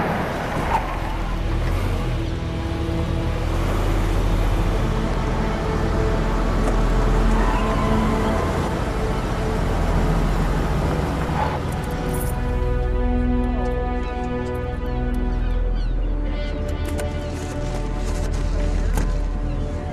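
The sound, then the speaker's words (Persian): An electric drill runs continuously, a loud steady motor whine with a droning hum underneath; its pitch and tone shift slightly about halfway through. No one speaks. “اون صدا دریلو میشنوه، مگه اینکه دورشو به حد اقل برسونه که صدایی نداره.”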